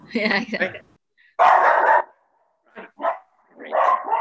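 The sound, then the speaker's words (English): A dog barks loudly in several irregular bursts, some short and sharp, others longer and harsher, separated by brief silences. “Dogs have a lot of problem with this concept.”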